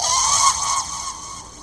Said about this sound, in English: And as the cane comes forward, the front end of that phoenix explodes out in showers of red and orange and yellow. And there is this tremendous call of a bird.